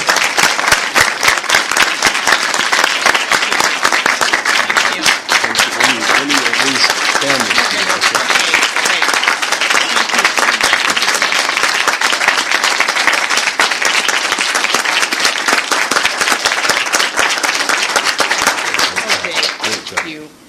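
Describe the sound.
Sustained applause from a sizeable audience, dense and steady clapping at full strength for about twenty seconds before trailing off at the end, with faint voices mixed in.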